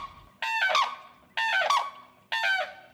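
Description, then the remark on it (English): A bird named Walnut, in Front Royal, Virginia, calls out to her longtime mate Chris with three loud, harsh, screeching calls at an even pace, each a rough harmonic squawk lasting about half a second, with faint background noise and no talking. “But maybe you'll find yourself in Front Royal, Virginia, hiking in the forest, and you'll hear a faint primal screech carried on the breeze.”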